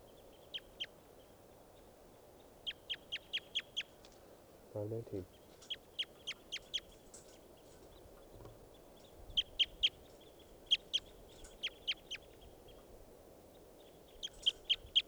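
bird, bird calls

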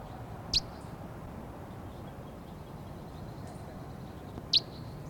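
bird, bird song

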